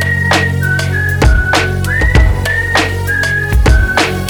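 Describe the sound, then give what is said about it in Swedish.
A whistled melody of sustained, stepping notes rides over a steady, punchy backing beat with deep bass, clear and upfront throughout. “Du har hört den förut så du visslar med mig ba.”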